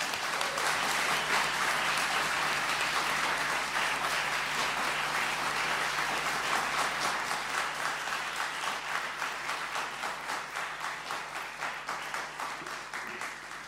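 A crowd applauds steadily, a dense wash of many hands clapping that stays loud before gradually thinning toward the end, with individual claps becoming more distinct.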